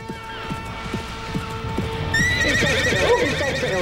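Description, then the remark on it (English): A horse lets out a loud, drawn-out whinny midway through, following a steady clip-clop of hooves that keeps going underneath, with a faint sustained tone humming in the background. “Didn't like that horse, did you,”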